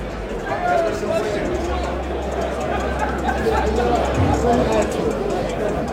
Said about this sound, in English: There's a mass of humanity. So, just let you listen to the crowd as we try and find a quiet spot.